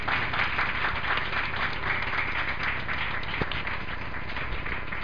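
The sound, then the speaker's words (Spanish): A live audience at a Radio Color broadcast breaks into steady applause, a dense, continuous wash of many hands clapping at even loudness throughout, with no voices over it. “Damos otro aplauso, que es gratis.”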